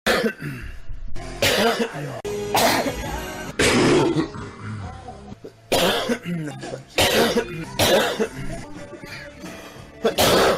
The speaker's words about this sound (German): Also dieser Hust-Räusper-Zusammenschnitt, der ist nicht von mir. Das ist das Wert von Rudis Revenge.